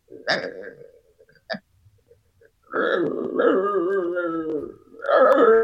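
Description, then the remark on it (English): A dog that bites makes low, warning 'talking' sounds instead of barking as a person walks up to it: a couple of short gruff bursts, then a long, drawn-out, wavering grumble that rises and falls in pitch, with no human voices. “Actually, a dog that bites kind of talks, kind of tries to let you know, hey, man, you're about to get bitten.”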